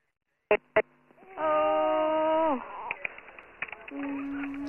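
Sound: infant crying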